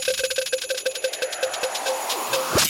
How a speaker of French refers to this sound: La roue de Noël, elle est devant moi. Je la lance, tu cries stop pour l'arrêter. Je t'explique les règles du jeu quand elle s'arrête. On y va. Stop.